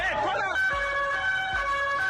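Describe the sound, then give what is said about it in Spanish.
Ambulance sirens wail steadily with a sustained, multi-toned pitch amid street noise on the Rambla after a white van ran people down, with a few low thumps underneath and brief indistinct voices at the start. “cuando esa furgoneta blanca irrumpe en lo que es la calle, lo que es la Rambla, y comienza a atropellar a todos los que están en la calle, a todos los que pasean por allí, y comienzan los gritos, las vidas sesgadas y el sonido de las ambulancias.”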